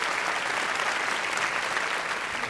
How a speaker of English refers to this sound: I just want to thank all of you and encourage you to give yourselves a round of applause for terrific questions.